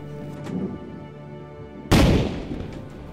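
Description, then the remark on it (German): A single loud cannon shot booms out suddenly after a stretch of quiet low rumble, then rolls away in a long, echoing decay. It is one of ten cannon shots that Clark has fired as a last salute during the burial of Captain James Cook. No one speaks. “Zehn Kanonenschüsse lässt Clark während der Bestattung zum letzten Salut für Kapitän James Cook abfeuern.”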